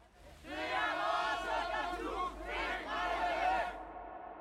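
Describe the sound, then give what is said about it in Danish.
A large crowd at the youth house chants the Danish slogan "det er vores ungdomshus, fingrene væk" (it's our youth house, hands off) in unison, loud rhythmic shouted phrases rising in two bursts with many voices blending together over a low rumble. “Og så selvfølgelig det der, sådan, den der, man også kan høre, det er vores ungdomshus, fingrene væk.”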